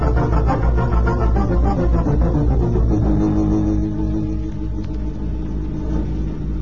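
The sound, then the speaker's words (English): A car driven by an old man speeds away, its engine rumbling steadily as a low drone that holds for several seconds and eases slightly toward the end. No voices are heard. “Did you see that car that just went speeding out of here?”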